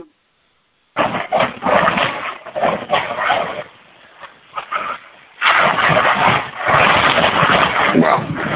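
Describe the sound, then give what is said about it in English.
A loud, jumbled clatter like dirty dishes crashing onto the floor, one dense burst of rattling impacts, a brief lull, then a second sustained wave of clanking. “It sounds like you're having an avalanche of dirty dishes crashing on the floor.”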